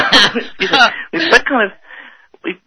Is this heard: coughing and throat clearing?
yes